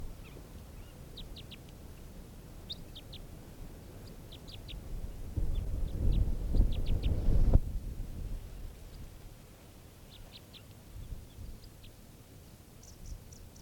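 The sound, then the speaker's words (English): Odd, very low-pitched bird calls, a type 3 variant, come in quick clusters of short chirps, repeating every second or two over a steady rumbling background that swells midway. No one speaks. “Really weird calls here.”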